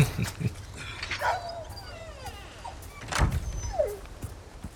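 A dog whines in high, wavering cries, with a couple of short yelps, in a mayor's garden, amid faint thumps and background noise.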